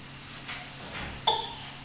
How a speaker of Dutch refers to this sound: Ja, kom, je moet hoesten.